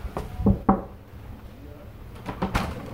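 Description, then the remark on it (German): Several sharp knocks on a wooden office door, a quick group of three followed by a pause and another short burst, distinct, with faint room noise behind. “Alles klar, da klopfe ich ja.”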